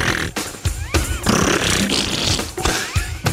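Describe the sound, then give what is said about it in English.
A voice imitates gunfire by buzzing the lips: loud, raspy, sputtering bursts that stop and restart several times, with no words spoken. “Like, how did you make fake gun sounds when you were a kid?”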